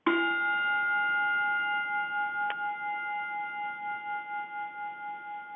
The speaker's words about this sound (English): I have that original gong of Major Bowes that he used on radio and then on television. And here, I'll play it for you. Here's the famous gong from the Amateur Hour.